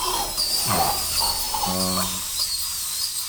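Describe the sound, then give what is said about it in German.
A dental drill shrills steadily at a high pitch throughout, fairly loud, drilling in a patient's mouth to remove tooth decay before the hole is filled, while a muffled, wordless voice groans briefly underneath. “Dann schrillte der Bohrer in seinem Mund.”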